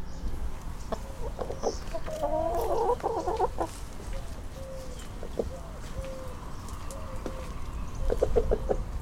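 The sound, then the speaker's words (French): Hens cluck in short, choppy bursts against a steady outdoor background, with a flurry of overlapping clucks early on and a few quieter calls near the end; the hens are fed scraps to reduce green waste in an educational garden in Évin-Malmaison, France. “Mais l'idée c'est pour montrer également que c'est une possibilité de réduire ces déchets, puisqu'on peut mettre beaucoup de choses qui vont être mangées par les poules, hein, pour réduire le volume des déchets verts.”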